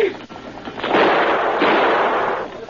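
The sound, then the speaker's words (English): A gunman fires a gunshot at a man by an open taxi door, with a harsh, loud blast that rolls into a broad, noisy rumble lasting over a second before fading out. “Barclay dropped to the ground flat, a second before the man fired.”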